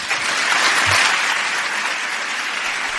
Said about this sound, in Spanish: El aplauso para la doctora Ángela Nieto Toledano con esa excelente exposición sobre el cáncer, sobre embriones, sobre fibrosis, sobre el corazón también.